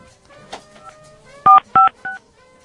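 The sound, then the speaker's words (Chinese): Three short, loud keypad beeps in a quick, fairly even sequence, each a steady dual-tone blip, as a phone number is dialed on a phone to place a call, with quiet background murmur before them. “我们先打给他看看。”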